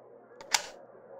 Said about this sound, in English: It's a single stall. Now come on, get in. Now lock the door.